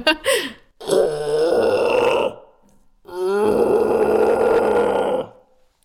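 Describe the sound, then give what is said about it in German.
A person imitates a red deer stag's roar: two long, loud, throaty bellows with rough, grinding harmonics, preceded by a short rising whoop and separated by a brief pause. “War das jetzt ein Sickerhirsch, ein Dammhirsch oder ein Rothirsch? Nein, das sind wir beim Rothirsch.”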